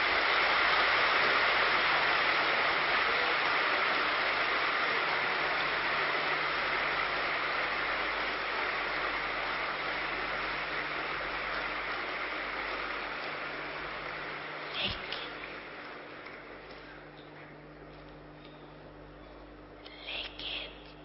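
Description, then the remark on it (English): A crowd claps together in a dense, steady wash of applause that slowly thins and fades over about twenty seconds, with a few louder isolated claps near the end. “And they're clapping again.”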